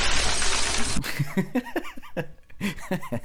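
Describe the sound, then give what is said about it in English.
A loud burst of a glass window shattering, a sound effect, crashes for about a second, then cuts off and gives way to rhythmic bursts of laughter. “and then put them through the window.”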